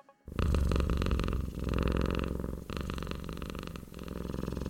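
A cat purrs loudly and close up, a steady rumbling hum with rhythmic breathing pulses that continues throughout without any talking.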